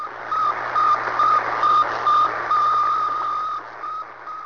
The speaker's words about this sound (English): Space Center in Kazakhstan, boosted into space a highly polished aluminum ball, 58 centimeters in diameter, weighing 83 kilograms. Ground receivers recorded its famous beeping signal as it passed overhead in an elliptical orbit above the Earth.